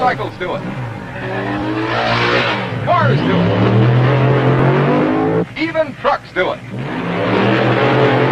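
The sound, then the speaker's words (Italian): A car engine revs loudly with rising, whining pitch, then tires screech in a few sharp bursts as it peels away. Vocal sounds and a dog-like bark are mixed in. “Sì, le maghene possono farlo, sì, le moto possono farlo, ma cosa? Sgommare?”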